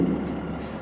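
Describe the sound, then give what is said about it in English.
A big semi-truck engine rumbles steadily, a deep diesel drone with a faint airy hiss, like an air brake, riding on top for under a second. “So we all gather up into his semi-truck.”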